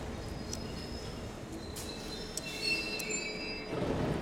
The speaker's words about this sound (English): That's the same train we saw going that way.